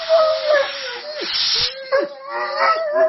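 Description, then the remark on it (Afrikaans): A large polar bear hisses, a breathy rasp threaded with whining, moaning tones that rise and fall over about three seconds, loud and continuous with no talking. “Dis 'n lesbeer, ijsbeer.”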